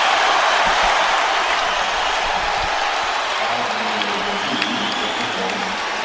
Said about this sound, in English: They foul him, and Kobe has a chance to get to 60 and put the Lakers up by three. Listen to this crowd.